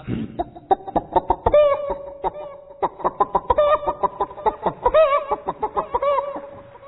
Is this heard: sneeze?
no